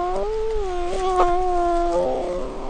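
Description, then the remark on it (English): An orphaned, rescued black bear cub about the size of a house cat, at a sanctuary in Alaska, lets out a loud, drawn-out wavering cry close to the microphone, a sustained tonal moan that shifts pitch near the end, with no talking. “I was a reporter in Alaska, and this cub, just about the size of a house cat, had been orphaned, rescued, and brought to a nearby sanctuary. And it was curious about my microphone.”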